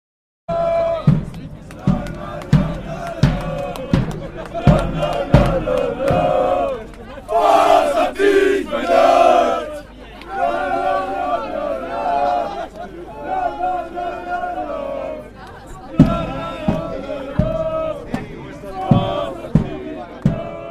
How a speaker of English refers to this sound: That was another bit of atmospheric crowd noise recorded in Ghent a few years ago, quite a long time ago now. The crowd were chanting for Thijs Benoot, the son of Ghent. He had just finished third in his second edition of Omloop back in 2016.